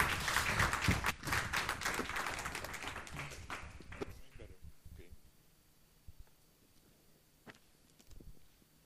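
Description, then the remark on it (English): An audience applauds as a man is called up to share his testimony, with dense, steady clapping for about four seconds, then it thins out to scattered individual claps over a quiet background murmur. “Round of applause.”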